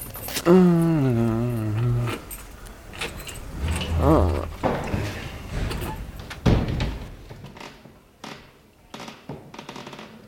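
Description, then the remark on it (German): A creaking tone opens, followed by a run of metallic clicks and rattles as keys jangle and turn in the lock of a school's staff smoking room, with a few sharper knocks toward the end. “Ja, hier ist ja der Schlüssel.”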